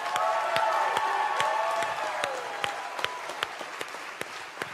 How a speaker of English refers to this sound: So here's what I want everybody to do. You're just going to clap real loud, and that's going to help my little friend who's in Washington, D.C.